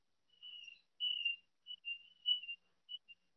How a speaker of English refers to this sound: You hear my birds? My birds are doing that.